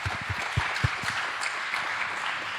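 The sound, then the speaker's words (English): Audience applause for the next speaker before his talk about Mosaic: a dense wash of many hands clapping at a steady, moderate level for a couple of seconds, with no voices over it. “So another applause, and then he can start.”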